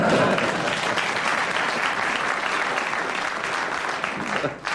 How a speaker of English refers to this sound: Very good. I think that deserves applause for that.